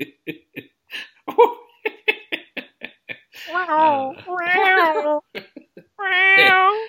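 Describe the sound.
A voice makes a quick run of sharp mouth clicks and pops, then three drawn-out, wavering wails that sound like a meowing cat, a clumsy attempt at beatboxing, loud.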